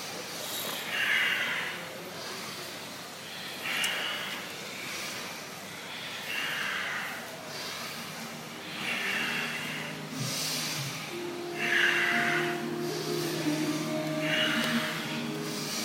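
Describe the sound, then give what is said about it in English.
Slow, deep breaths repeat steadily, roughly every two seconds, each a soft airy rush in and out, moderately loud, during a guided movement and breathing exercise, with faint tonal sounds in the background toward the end. “Close your eyes when you've got it. Simple movements. And focus more on your breathing.”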